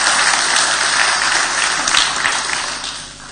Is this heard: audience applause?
yes